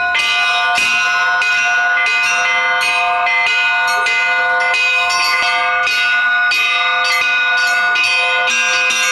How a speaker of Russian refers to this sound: Отец Георгий пригласил школьников на колокольню. По благословению правящего архиерея епископа Ейского и Тимашевского Германа им было разрешено самим побывать в роли звонарей.